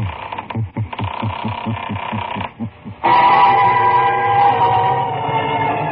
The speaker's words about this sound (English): Where are we going? Through the creaking door, of course.